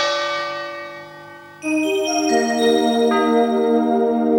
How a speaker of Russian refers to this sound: Слушайте сами, своими ушами, и проснется ваша память генетическая, и вы услышите, что это за колокола, чем славилась Россия, о чем ходили легенды во всем мире.